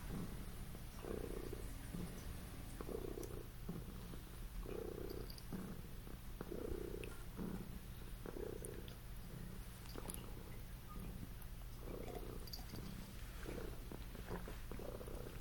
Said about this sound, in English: Purrs. Oh, listen to that.